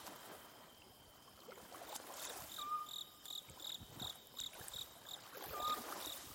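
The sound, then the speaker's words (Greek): Crickets chirp at dusk in steady, rhythmic high-pitched pulses over a soft background hiss, with a couple of brief whistled notes from birds singing their last songs before sleep; no one speaks. “Γρίλοι που υποδέχονται τα τζιτζίκια.”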